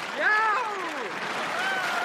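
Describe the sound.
A crowd cheers over a bed of clapping noise, with a few voices letting out long rising-and-falling whoops that fade and then swell again across about two seconds.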